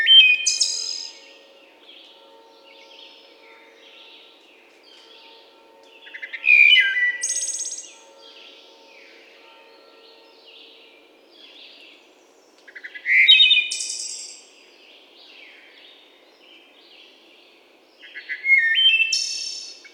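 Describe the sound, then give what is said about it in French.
A small thrush, perched in the shade at the same post, sings short, bright phrases, each repeated about every six seconds with quiet gaps between, clear, over a faint low hum. “L'oiseau est tranquille, posé à l'ombre, toujours au même poste, et répète inlassablement ses petites phrases entrecoupées d'un silence.”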